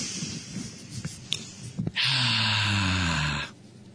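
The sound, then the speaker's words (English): A person acts out one long, deep, loud sniff of freshly mimeographed school papers, lasting about a second and a half, with a slight throaty, snorting edge, after a few faint rustles. “And we would always love to get these freshly mimeographed papers. And as soon as everybody in school did this, as soon as we got them, we'd go.”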